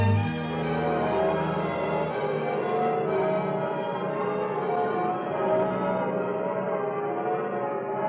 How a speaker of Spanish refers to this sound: Las campanas. Son las campanas de San Miguel. Las campanas de San Miguel.